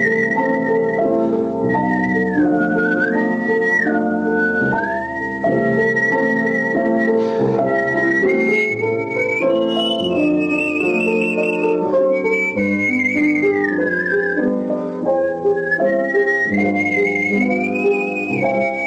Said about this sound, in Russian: Вы слушаете передачу … «Художественный свист».